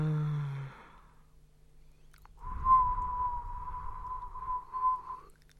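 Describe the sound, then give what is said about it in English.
A person whistles one long, steady, breathy note for about three seconds as a tumbleweed-style joke, following a brief vocal sound and a short pause. “Why are you whistling at me? It's like tumbleweed, you know, just to illustrate it.”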